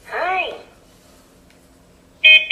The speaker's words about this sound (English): There's his beep, so we tap once. Okay, so there we go. So a bit of a pause between the first and the second tap.